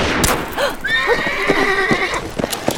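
A horse lets out a long, quavering whinny while hooves clop steadily and fairly loudly beneath it, the sharp hoofbeats continuing after the neigh fades.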